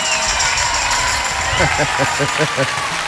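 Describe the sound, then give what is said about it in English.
A crowd applauds a musician introduced before a song, with a steady, dense wash of clapping and cheering, while a few tonal notes rise briefly over it toward the end. “This is a new twist on a very old song with my ex-husband actually singing, so I'd like to give a round of applause for”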